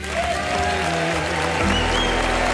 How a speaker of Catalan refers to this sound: Que se'n senti fort. Un aplaudiment, sisplau.